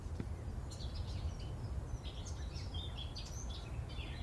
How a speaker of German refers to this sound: Wir sitzen hier neben einem umgestürzten Apfelbaum. Das kann man sagen. Er ist abgebrochen und hält noch ein bisschen an der Rinde und lebt. Im Hintergrund singt eine Mönchsgrasmücke. Ist das drauf, die Mönchsgrasmücke?